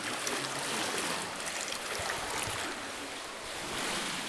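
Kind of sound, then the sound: ambience, children splashing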